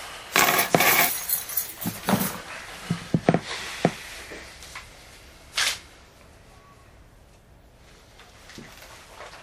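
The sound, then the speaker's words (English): Bright metallic clinks and rattles of keys jangling in a short burst over the first few seconds, then one more sharp jingle before things go quiet. Fairly loud, with no talking. “These keys weren't on me when the incident occurred, so. Okay, take them on.”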